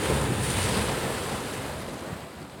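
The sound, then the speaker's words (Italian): Sea waves wash steadily onto the shore, a broad continuous roar of surf with some wind noise, loud throughout, with no voices. “Allora, non è originale quello che dico, ma è sicuramente il rumore del mare.”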